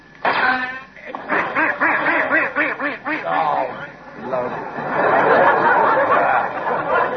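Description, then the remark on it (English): A series of nasal duck quacks comes in quick, uneven bursts, then gives way to a rougher, noisier stretch of sound toward the end. “He's going to shoot a few ducks. Oh, he'll be lucky they've all swum away, haven't they?”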